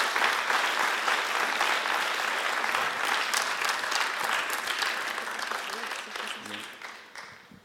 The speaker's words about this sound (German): Ja, gern dir einen herzlichen Applaus. Bitte schön.